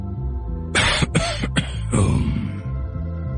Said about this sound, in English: pulled her towards him and coughed in her face.